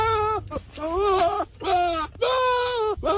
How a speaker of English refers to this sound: It's a goat. It's not Will. It's a goat.